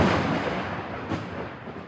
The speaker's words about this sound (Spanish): Aunque el espectáculo de luces es impresionante, lo que asusta es el sonido del rayo. El trueno es inseparable del rayo. Es una manifestación del sonido, que de hecho proviene de una explosión de aire.